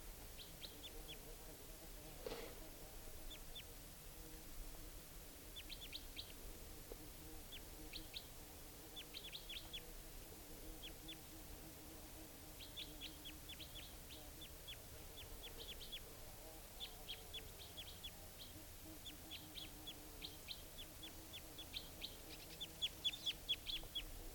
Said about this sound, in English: And the type 2 and type 4 bird, well, at least the type 4 took off for good, and I think it's coming back because it wasn't joined by the type 2 bird, who's still in a nearby tree.